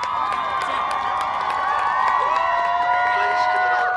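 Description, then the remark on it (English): A crowd of young students at a drum major academy whoops and cheers continuously from the sidelines for other squads as groups are eliminated in a daily marching competition, with high rising and falling shouts layered over a steady, loud roar of excited chatter. “As groups are eliminated, they whoop and cheer from the sidelines for the others.”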